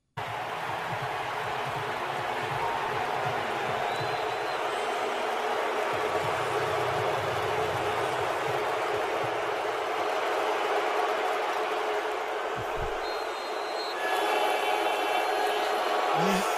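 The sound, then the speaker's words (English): A stadium crowd boos quarterback Russell Wilson as he takes the field, as heard on the Manning cast broadcast, in a loud, unbroken roar of voices that holds steady for about seventeen seconds and swells slightly toward the end. “When Russell Wilson took the field last night and they started booing him, this is what it sounded like on the Manning cast.”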